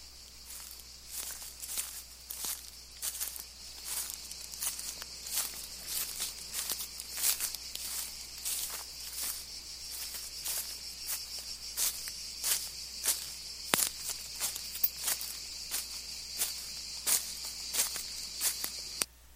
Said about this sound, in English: that's me walking through Simon's garden